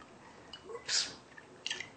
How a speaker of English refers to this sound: We have a can of the tomato sauce. 15-ounce can of organic tomato sauce. Okay. We'll pour that in.